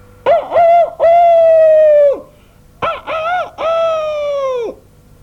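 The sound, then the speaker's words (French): A rooster perched on the gate of a farmyard crows loudly twice, each crow opening with short clipped notes and ending in a long, harmonically rich held cry that drops off at the end. No voices are present. “Nos vagabonds passèrent bientôt devant une cour de ferme sur la porte de laquelle était perché un coq qui criait à tue-tête.”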